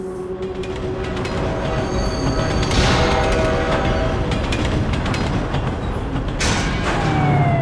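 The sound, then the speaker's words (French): A dense, constant roar of futuristic flying-car traffic, thousands of cars in stacked layers almost colliding above an immense city, loud, with metallic squeals and whooshing passes sweeping by over a heavy rumbling din. No one speaks. “La ville est immense, des couches de voitures se superposent, se heurtent presque en faisant beaucoup de bruit, et à travers les yeux effrayés du personnage qui regarde les voitures voler par milliers”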